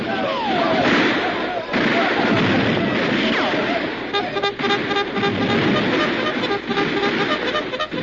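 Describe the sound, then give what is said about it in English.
Heavy, accurate gunfire from rifles and cannon pours from a fort, rattling in a dense, continuous barrage, loud, with shouting voices and bursts of noise tangled into the din throughout. “Heavy and accurate gunfire pouring from the fort, the leaders of the savages knew there was no hope.”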